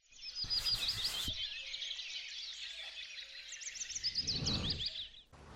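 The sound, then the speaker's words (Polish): Dense birdsong fills the air, many small birds chirping and trilling continuously at moderate volume, including a woodpecker, with brief low rumbles of passing noise in the background, outdoors in Regan Park in Gdańsk around 9 a.m. on 6 March, with patches of snow remaining. “Wszędzie pełno ptaków, o, znowu dzięciołka słychać.”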